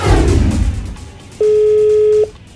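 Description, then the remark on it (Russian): A single steady telephone ringback tone sounds clearly for under a second as a call is placed to a listener during a live broadcast, following a fading wash of background noise, with no one talking. “Мы звоним.”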